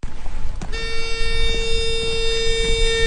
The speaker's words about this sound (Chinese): 这个是什么声音？ 这个是驱蛇器。